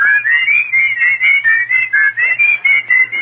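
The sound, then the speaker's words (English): A whistled imitation of a bird's song in a comedy sketch set in a park: a steady run of quick, warbling high notes in a bouncing rhythm, about a dozen short phrases, fairly loud, with no talking. “Ah, listen to the birdie.”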